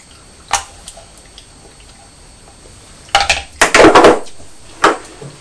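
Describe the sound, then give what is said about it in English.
A spoon drops onto a chair: one sharp clink, a quick burst of clattering knocks as it bounces and settles, then a final light tap. No one speaks. “You just dropped your spoon onto the chair and Birdie was sitting on the mat outside and she jumped.”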